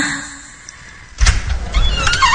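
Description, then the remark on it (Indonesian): The door of the room next door opens with a sudden thunk about halfway through, followed by a rattling, scraping creak and low rumble against a quiet background. “Kali ini terdengar suara pintu dibuka.”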